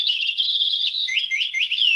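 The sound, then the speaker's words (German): A parrot character chirps in a continuous stream of high, warbling tweets and quick rising-falling whistles, fairly loud, with no talking over it. “Die klingt auch ein bisschen anders als ein normaler Papagei.”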